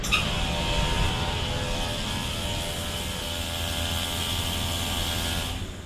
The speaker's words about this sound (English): At Alabama Power's Plant Miller coal-fired steam plant, a sonic horn sounds on the new Selective Catalytic Reduction Technology, or SCR. The horn and its very low frequency causes vibration through hundreds of feet of piping